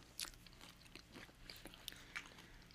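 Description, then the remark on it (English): Crunchy chewing with several irregular bites and wet mouth clicks, fairly quiet and heard alone without any talking. “You can say something while I chew.”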